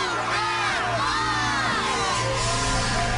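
A large crowd screams and cheers excitedly at the 'Move That Bus' moment of a TV home makeover show, as the bus is moved to reveal a new home; a dense, sustained wall of overlapping high-pitched shouts and whoops that stays loud and steady throughout.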